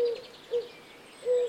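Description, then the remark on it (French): A turtle dove coos in three soft, low purring notes, a short one, a brief one, then a longer drawn-out one, with no talking around them. “C'est la tourterelle qui roucoule.”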